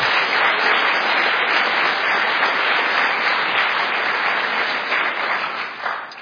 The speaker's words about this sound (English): Well, that was an awesome session. Can we give them another round of applause?